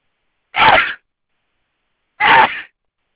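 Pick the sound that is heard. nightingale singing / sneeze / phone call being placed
sneeze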